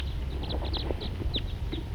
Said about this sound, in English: Birds just generally flying around here. Here comes another one.